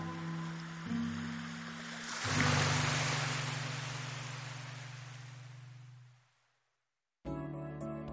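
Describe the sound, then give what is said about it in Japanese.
A single ocean wave on the shore swells into a loud, hissing wash, then slowly recedes and fades out over several seconds, with a steady low hum underneath and no voices. “そうだね、海の方へちょっと散歩してみようか。”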